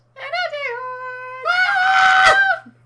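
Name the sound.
high-pitched shriek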